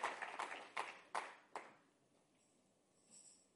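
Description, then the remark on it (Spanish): An audience claps in sharp, rhythmic bursts, about five strong beats, during a sermon, before the applause quickly dies away into quiet. “Si le vas a dar un aplauso, dáselo fuerte, amén, aleluya.”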